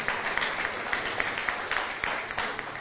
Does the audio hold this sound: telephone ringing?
no